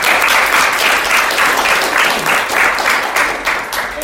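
An audience applauds steadily, a loud, dense wash of many hands clapping that holds at an even level for the full four seconds without any voices over it.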